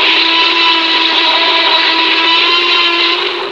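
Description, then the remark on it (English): A Tyrannosaurus rex roar: one long, loud, harsh bellow with a rough tonal edge. It holds steady for several seconds, then eases off slightly at the end, with no talking. “The Tyrannosaurus Rex says...”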